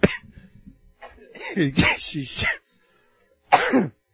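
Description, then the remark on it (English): A man coughs and clears his throat several times during a Bible teaching, fairly loud: a harsh rasping stretch of throat noise followed, after a short pause, by one more sharp cough. “Boy, I feel that anointing as I cough.”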